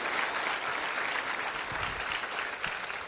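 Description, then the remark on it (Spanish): An audience applauds steadily for Jesus, a dense wash of many hands clapping at an even level for the whole stretch with no voices standing out. “Se le van a dar a mí, no es mi aplauso, es para Jesús.”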